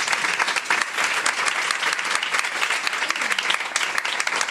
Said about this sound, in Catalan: Un aplaudiment per la Raquel, sisplau.